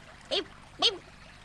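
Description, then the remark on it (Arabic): A voice imitates the strong buzzing a bat makes while flying to avoid hitting things in the dark, in two short, sharp bursts about half a second apart, each fairly loud, with quiet in between and no talking. “أثناء طيراني أصدر صوت طنين قوي. تعني هكذا؟”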